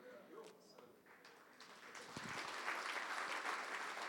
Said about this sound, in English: I'm not sure why you're clapping. I feel somehow mixed feelings about that.